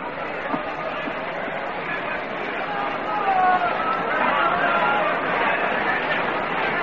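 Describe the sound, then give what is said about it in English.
A steady wash of crowd chatter from a fair-sized crowd at a night baseball game, with Spahn pitching for Milwaukee in a 2-1 game, fills the whole stretch: many overlapping voices blend into an even murmur, with no single speaker standing out and a slight swell midway. “Fair crowd on hand tonight.”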